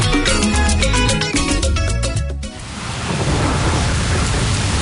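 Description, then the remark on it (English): Music plays for a couple of seconds, then cuts to a dense, steady, loud roar of heavy rain in a thunderstorm, continuing to the end with no voices. “Don't wait for the rain to start bucketing down.”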